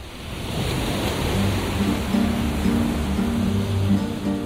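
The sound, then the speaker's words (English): Steady wash of Adriatic Sea waves breaking on a beach at a large luxury resort on the coast of Albania, a broad continuous surf roar swelling gently, with faint low hums underneath and no voices. “The morning when I came up and just opened the balcony door, and I was like, here is the sea, it's a beach.”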